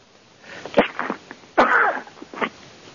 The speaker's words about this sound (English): excuse me, I had to sneeze.